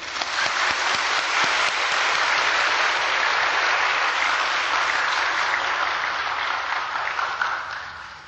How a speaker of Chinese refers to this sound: 现在我们以最热烈的掌声恭迎师父开示。